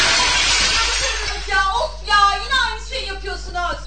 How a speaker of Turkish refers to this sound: Eyvah. Cam kırıldı. Lütfen ortalığı toplayın. Nasıl şuttu hocam? Hocam mükemmel şuttu ama camı dağıttık ya.